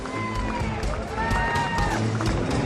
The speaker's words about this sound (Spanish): Esos son los aplausos de la familia de Novak Djokovic al propio serbio.